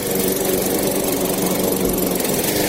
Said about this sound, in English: Then, start mowing.